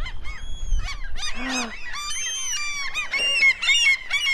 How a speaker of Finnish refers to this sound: Ai, tiiroja on ihan hirveesti. Ui, kun ne hyökkii.